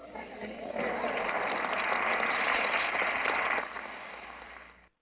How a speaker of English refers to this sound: It's amazing listening to these individuals clap when you consider the fact that the Apostle Paul approached God three times about removing a thorn in his flesh, and God told him no.